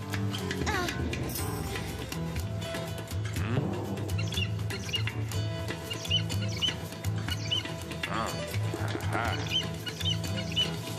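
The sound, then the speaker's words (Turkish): Young eagle chicks call from a nest in repeated shrill, rising chirps that come in bursts, layered over a dense, steady background of sound. “Bir kartal yuvası. Şanslı günümdeyim. Bu yavru kartalları yüzlerce akçeye satabilirim.”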